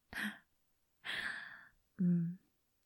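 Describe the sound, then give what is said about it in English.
A small gasp of breath, then a longer airy sigh and a brief soft voiced murmur, all quiet and separated by short pauses, with no words spoken. “That little gasp.”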